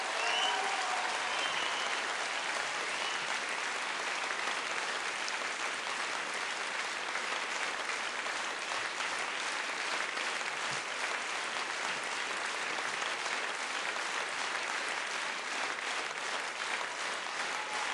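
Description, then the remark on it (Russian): Sustained, dense applause from a large audience after a vocal performance fills the whole stretch, steady and loud with the crackle of many hands clapping at once, no voices standing out above it. “Бесконечнейшие аплодисменты.”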